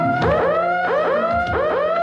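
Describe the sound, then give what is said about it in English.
A burglar alarm wails loudly, its electronic tone sweeping upward over and over in a fast, steady cycle of shrill rising whoops, with no voices. “Venus is logging the song when the burglar alarm sounds.”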